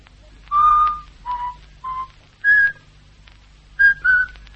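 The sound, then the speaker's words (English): A person whistles a short, halting melody, about six clear notes in two phrases with a pause between, over a faint steady hum. “he whistles all the time. The same tune.”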